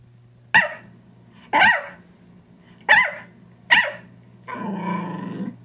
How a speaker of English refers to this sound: let's kind of hear what a Yorkie sounds like.